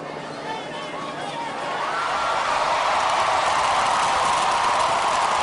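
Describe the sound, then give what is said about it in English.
A large outdoor crowd roars and cheers as the Confederate battle flag is taken down, the broad wash of voices swelling louder after the first second or two and holding at a sustained din. “Hear the flag coming down. You can hear the crowd.”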